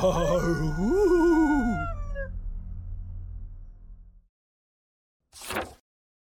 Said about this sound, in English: I look around, but see nothing. Then the howling begins.